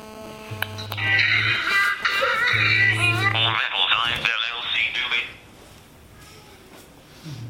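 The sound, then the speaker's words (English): A mobile phone ringtone plays during a class, a short burst of music with bright melodic tones over a low sustained bass note, loud for about five seconds before cutting off to quiet background noise. “So we have a rule that if your phone's going to ring, it has to have this. It has to have music that matches what we're discussing in the class.”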